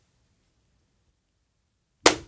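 A single sharp, loud clap from several people striking their hands together in unison, cutting in after about two seconds of near silence and fading away quickly.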